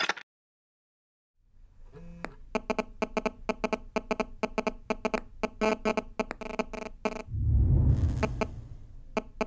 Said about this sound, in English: this is now what the phone's doing. And that's waves going from my phone to the base station